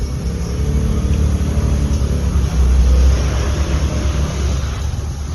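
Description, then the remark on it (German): A woman drives away on a decorated motor scooter on a hot day, its engine droning steadily, a low buzzing rumble that swells briefly midway before easing slightly as it pulls away. No voices are heard. “Es ist wahrscheinlich gerade Hilde, die da wegfährt”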